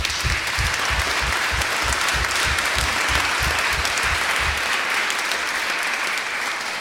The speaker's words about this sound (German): Give the Lord a big clap. Gib dem Lord, dem Herrn einen großen Beifall.